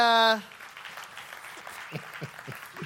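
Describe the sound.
A short electronic tone sounds, then an audience breaks into steady applause as two people come up to take part in a game, filling the rest of the moment, with a few scattered cheers and voices mixed into the clapping.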